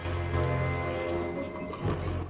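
A tiny alien creature that looks like a mix between a snake and a tropical plant lets out a sustained, rasping roar lasting about two seconds, steady and fairly loud with a gritty, growling tone and a brief swell near the end.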